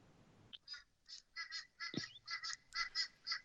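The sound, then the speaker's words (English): A crow caws over and over in a quick, steady series of harsh, raspy calls, clear, with no one talking. “Is that a real crow behind you, or is that a fake one just making noise to rub it in?”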